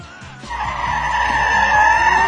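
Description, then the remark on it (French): A truck screeches in with loud skidding tires, a sustained high squeal rising over a low engine rumble for a couple of seconds, prominent with no voices. “le camion du baron Helmut Munchausen avec une division de Panzer”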